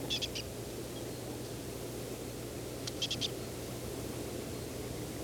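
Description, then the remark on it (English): A bird call made of short, high chirping notes, a quick group of three at the start and another quick group of four a few seconds later, over steady hiss and a low hum. The bird is foraging in a pine near needle tufts, about 3 to 4 meters from the recorder. “Aiming at the bird that appears to be making this call.”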